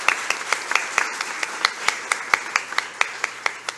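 Audience applause at a city council ceremony in Santa Maria de Itibá: a steady wash of many hands clapping, with sharper individual claps cutting through at a brisk, fairly even rhythm, moderately loud throughout.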